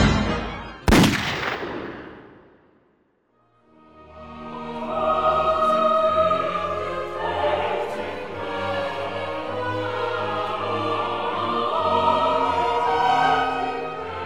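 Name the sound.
exchange of gunshots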